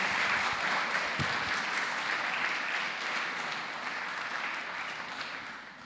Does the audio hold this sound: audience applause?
yes